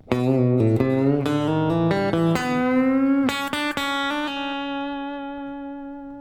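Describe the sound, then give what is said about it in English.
A short electric guitar lick built on a triplet run of hammer-on and pull-off between the third and second frets of the B string, with a quick run of picked notes and a few bends, ending on one sustained note that rings out and slowly fades. “So to connect that with a lick, it sounds like this.”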